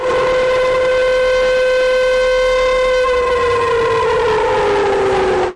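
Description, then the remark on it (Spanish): A loud civil defense siren wails steadily, its rich harmonic tone holding then slowly sliding down in pitch before cutting off abruptly; no voices are present. “Joder, suenan las sirenas de la Unión Europea, ¿eh?”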